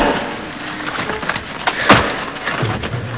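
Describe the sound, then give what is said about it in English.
Wood creaks and splinters as a crowbar prises a door open, with scraping strain throughout and one sharp crack near the middle, followed by lower thuds of the door giving way. “Now, where's that crowbar he gave us to open the door with because he's lost the key? Here it is. Just wedge it in the door.”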